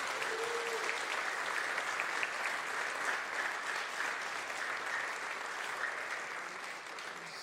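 Steady, sustained applause from an audience, a dense wash of many hands clapping at an even level for several seconds, with no voices standing out.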